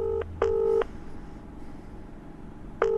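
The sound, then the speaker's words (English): A phone dials out on speaker: three clear electronic touch-tone beeps, two close together then one after a pause, loud over a faint low hum. “Call him on speaker.”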